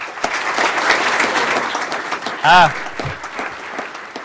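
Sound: round of applause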